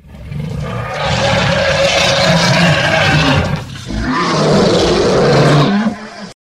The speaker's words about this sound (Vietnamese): Vừa nghe tiếng rống vang trời của sư tử, chính chồng giật mình kinh hãi từ trên lưng voi rớt xuống đất